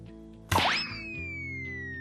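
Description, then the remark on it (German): A taut bowstring gives a single sharp twang as an arrow is shot, its pitch bending briefly before settling into a thin ringing tone that lingers and slowly fades, with no voices. “Sie glauben nämlich, dass die Jäger beim Abschießen der Pfeile gemerkt haben, dass diese gespannte Sehne hier einen Ton erzeugt.”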